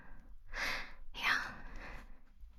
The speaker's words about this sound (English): Oh well, hey, you're kind of breathing heavy. Oh well, okay, yeah, I'm also breathing kind of heavy.